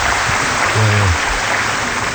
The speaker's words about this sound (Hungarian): Itt van szív atya, megmutatom, igen, tapsolnak neki.